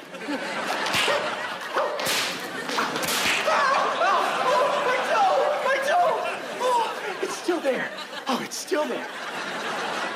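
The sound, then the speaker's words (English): Several sharp cracks of a beast-taming whip snap out at irregular intervals, a couple in quick succession, making sparks shoot out, over a steady bed of chattering voices and occasional laughter. “That's how you make sparks shoot out of a whip.”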